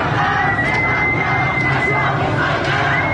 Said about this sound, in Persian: علارغم این سرکوب شدید، خیابان ها شلوغ هستند و صدای شعار قطع نمی شود.